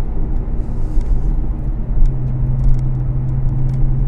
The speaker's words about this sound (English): Oh my God, this car is just amazing. Just amazing. So much power.